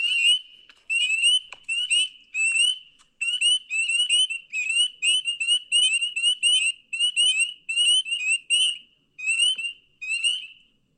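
A chorus of frogs calls in rapid, repeated high-pitched trills and chirps, pulsing steadily for several seconds with brief gaps between bursts, loud with no voices.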